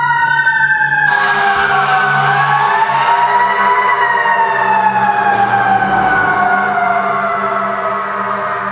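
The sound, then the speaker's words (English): A loud fire truck siren wails steadily, its pitch sliding downward as the vehicle passes by, with a low engine rumble underneath and no talking. “And now we're able to talk again. Now that the fire truck has gone by.”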